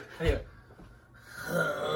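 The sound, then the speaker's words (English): A voice attempts Mongolian throat singing with two short bursts of strained, gravelly low-pitched droning, rough, separated by a brief breathy pause. “Mongolian throat singing. I got the hang of it.”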